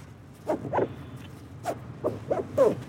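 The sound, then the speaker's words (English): Straps on a life jacket are cinched tight before a canoe trip on a river, giving about seven short zipping rasps in an uneven rhythm over a quiet background, with no talking. “Before we can go anywhere, we review river safety and each cinch up a life jacket.”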